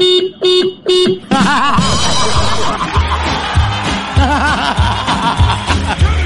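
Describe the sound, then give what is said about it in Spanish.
Three short, sharp horn honks in quick succession, steady and mid-pitched, then a loud, busy jumble of voices and laughter-like sounds fills the rest. “¿No pusiste la corneta a la hora? ¿Llegaste atrasado? Dale con la corneta.”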